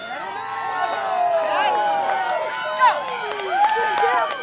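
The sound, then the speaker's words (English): A crowd at a town party in a backyard cheers wildly as a Special Olympics athlete races down a muddy track wearing snowshoes. It is a dense wash of overlapping shouts, whoops and high excited voices that stays loud and sustained throughout, with a few sharper yells rising above the din. “He races down the muddy track with snowshoes on, and the crowd goes wild.”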